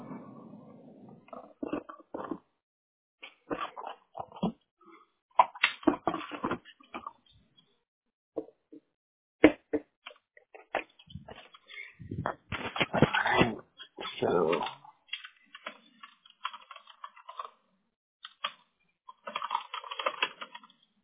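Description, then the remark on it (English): Computer keyboard typing and mouse clicks come in irregular bursts of quick taps, separated by short pauses of near silence. No one speaks. “I have to read it to you anyway, so we'll get through the clicks and the typing, and then I'll read to you.”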